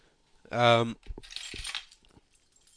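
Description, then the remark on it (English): A short voiced sound is followed by a brief jingle of keys, a bright metallic rattle lasting under a second before fading to quiet. “Well, I need my keys and wallet to go out.”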